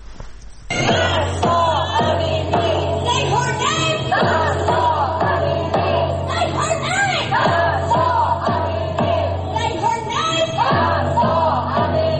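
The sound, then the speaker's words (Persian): Thousands of Iranians chant the name of Mahsa Amini in front of the White House in Washington, D.C., many voices rising together in loud, rhythmic repeated calls that continue steadily for several seconds. “در پایتخت آمریکا واشنگتن دی سی هم هزاران ایرانی روز شنبه 25 شهریور نام او را روبروی کاخ سفید فریاد زدند.”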